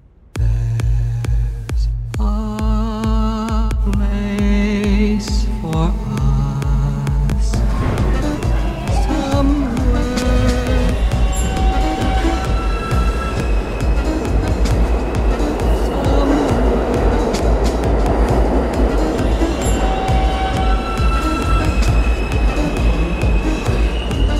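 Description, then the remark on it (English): An electric train's traction inverter whines in stepped musical tones that jump between pitches as it converts an old system of wave for a new, efficient motor, then gives way to a steady, loud rumbling hum with faint lingering tones as the train runs. “the noise itself is created by something that is reconciling an old system of wave into a new motor to be efficient.”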